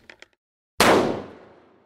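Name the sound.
gunfire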